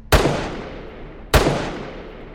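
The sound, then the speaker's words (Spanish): Two loud gunshots fired at Mexican candidate Luis Donaldo Colosio, a little over a second apart, each a sharp crack followed by a long echoing decay that fades slowly, with no voices around them. “Se escuchó dos veces «Huye José» y cada una significó un disparo.”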